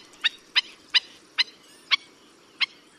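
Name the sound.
black-necked stilt calls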